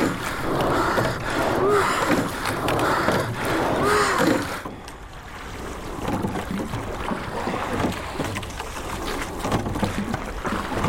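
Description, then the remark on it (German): A rowing boat moves through water as the crew levers the oar blades out of the water and turns them flat. The blades splash and gurgle in rhythmic strokes over a steady wash of water and wind. The texture softens partway through, leaving a quieter, continuous watery rush. “Hebelt sie die Blätter ihres Guts aus dem Wasser, heben wir die Blätter unseres Guts aus dem Wasser.”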